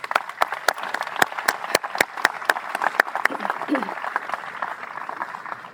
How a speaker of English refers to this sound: Without those folks, with the vision and with the other contributions, both with time and treasury, to be able to move us to this point, please recognize them with a round of applause.